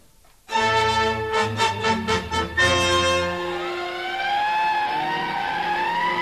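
Fire engines evacuate from a fire at Latigo Canyon, pulling away with sirens blaring, first a rapid pulsing horn-like blast, then a long wailing siren that rises and falls steadily over a low engine rumble.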